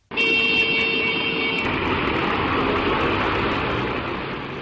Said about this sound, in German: Eine Kolonne von Landmaschinen schleicht über eine Fernstraße. Hinter ihnen stauen sich PKWs und schwere Lastwagen.